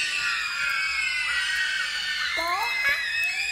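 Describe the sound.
A large concert crowd screams and shrieks together, answering a performer's call for a big shout, in a sustained, high-pitched roar that stays loud and steady, with many overlapping voices and some rising squeals toward the end.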